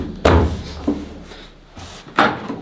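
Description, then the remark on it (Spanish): A door is shoved shut with a heavy thud, followed by a lighter knock and then another loud slam, all spaced irregularly with no voices. “Güey, tenemos que volver a tapar esta puerta, güey.”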